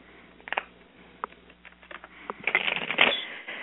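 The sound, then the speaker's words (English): A deck of cards being shuffled before cards are pulled, with quick papery riffles and soft flicking taps building into a denser, louder burst near the end, no voices present. “after the third shuffle, Michigan Girl, I'm going to ask you to tell me when to stop thumbing through the deck”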